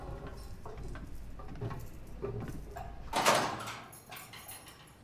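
A heavy metal prison door being unlocked by an officer from a caged corridor, with scattered clicks and rattles building to a loud clank of the latch, then a quieter settling rattle.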